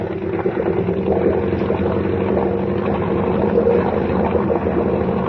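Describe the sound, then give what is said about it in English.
A motorboat's engine drones steadily and loudly as the boat runs at speed, throwing a large wake, with a low rumbling hum and a rough, churning texture, with no talking. “Boy, we throw a wake like a little Queen Mary.”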